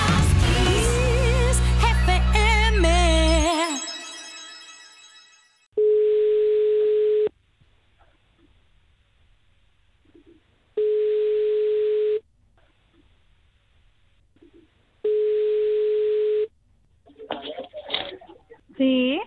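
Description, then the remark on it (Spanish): A telephone ringback tone sounds three times while a call is being placed, each long steady beep separated by a few seconds of quiet, after music fades out; a voice answers at the very end. “Pues espera un momentito ahí, vamos a poner una canción y llamamos a esta persona tan especial.”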